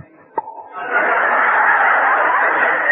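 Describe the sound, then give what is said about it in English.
A voice imitates a door opening for the milkman: a quick click, then a long, steady, raspy hiss held loudly for about two seconds, with no words spoken. “Now, the reason he went to the door was because occasionally the milkman used to come round with little things to feed him, and the door would open and the door would sound like this.”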